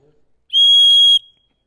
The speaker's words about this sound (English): They blow the whistle. Time out. There's been an infraction made.